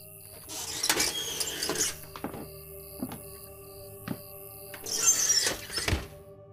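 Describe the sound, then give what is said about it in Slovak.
The door of a house swings shut behind someone who has just stepped inside, with a series of dull thuds and knocks, heaviest near the start and end, over a steady electrical hum with faint pulsing high-pitched whine. “Dvere sa za mnou zavreli a svetlá nado mnou sa rozsvietili za občasného blikania.”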